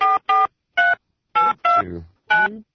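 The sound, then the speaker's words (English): A telephone number is keyed in to call the actress known as Judy Jetson, as six short electronic beeps at an uneven pace, each a bright buzzy tone; the last two end in a lower, wavering hum. “Thanks for dialing.”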